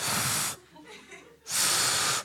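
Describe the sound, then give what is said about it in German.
Two loud, breathy bursts of air blown through pursed lips by the kangaroo trying to whistle, each about half a second, making only a toneless hiss instead of a whistle, with a softer, murmuring breath between them. “Es bläst nochmal Luft durch die Lippen.”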